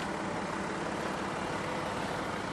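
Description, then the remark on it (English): A steady, dense roar of street traffic fills the scene, vehicles rumbling past in a continuous wash of engine and road noise with no clear breaks. “We should have much less traffic down here now, because we're heading down to the dock side.”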